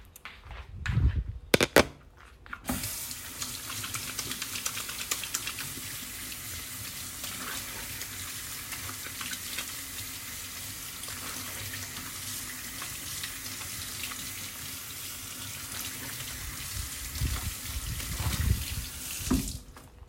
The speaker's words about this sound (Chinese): 风扇是开着的，所以你会听到风声哦，感受到风声。